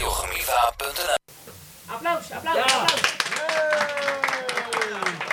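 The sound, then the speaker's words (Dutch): Audience applause: a dense burst of clapping, a brief break, then the clapping resumes and carries on steadily with voices and cheering mixed in. “Applaus.”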